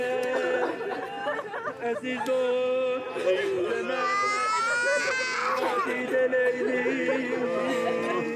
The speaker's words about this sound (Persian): ریحان کنار قبر هاجر نشسته و گریه میکنه.